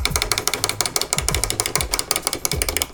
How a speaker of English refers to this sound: Oh, I have a wind-up duck that looks like he's swimming. It's super cool.